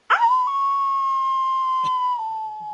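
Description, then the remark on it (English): A single long werewolf howl rises sharply, then holds a steady, sustained pitch for nearly three seconds before tapering slightly at the end, loud with nothing else around it. “Werewolves like to howl.”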